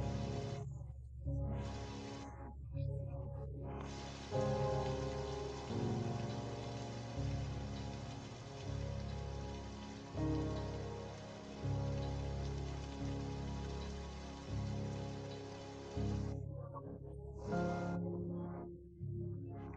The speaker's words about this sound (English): When you have taken each and every one of the rocks out of that backpack, you suddenly notice that the rain begins to stop and that little by little it disappears.